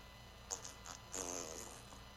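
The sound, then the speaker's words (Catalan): A quiet, sputtering fart with a short burst followed by a longer, rumbling blast about half a second later, heard alone without any talking. “Perdoni, però és que el metge m'ha dit que no m'ha d'aguantar els pets, ni els rots.”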